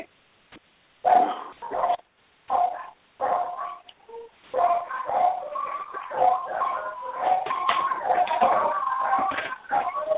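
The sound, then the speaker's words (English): Dogs bark in a run of sharp, separate yips and woofs that give way to overlapping howling and whining, loud and continuous through the second half, with no talking. “Dog.”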